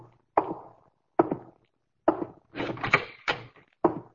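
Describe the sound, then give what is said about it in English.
A door being opened as someone comes in: a series of sharp wooden clunks and bumps spaced apart, with a brief creaking, rattling stretch in the middle, and no one talking. “someone's coming. Slip those ropes over you and lie down on the floor, quick.”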